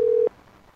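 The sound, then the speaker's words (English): A telephone ringback tone on an outgoing call placed on air: one loud, steady electronic tone that cuts off abruptly after a fraction of a second, followed by faint line hiss. “Ringing on the air.”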